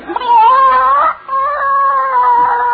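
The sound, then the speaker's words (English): A hen squawks in two long, drawn-out protesting cries, loud, with only a brief break between them and no talking, as someone reaches in under her to collect her egg. “By George, no hen can intimidate me. I'm going to get that egg.”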